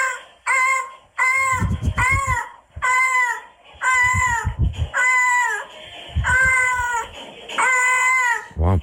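cat in heat yowling

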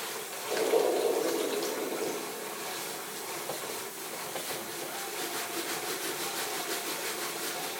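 water running

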